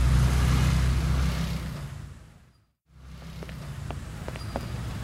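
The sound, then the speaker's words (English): Steady road traffic with lots of cars rumbles with low engine noise from passing cars, cuts out briefly into near silence, then returns with light scattered clicks like footsteps over the street hum. “There are lots of cars on the road today.”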